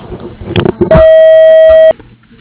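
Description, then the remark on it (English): A single loud, steady electronic beep from the voicemail answering machine of A&A Welding and Machining LLC holds for about a second, then cuts off cleanly, with faint muffled clatter and background noise before and after. “Please leave a message after the beep and we'll get back to you as soon as possible.”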